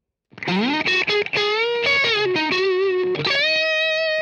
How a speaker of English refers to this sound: And a little lead line with the neck pickup and the drive channel of the amp. And same thing with the blues driver, neck pickup.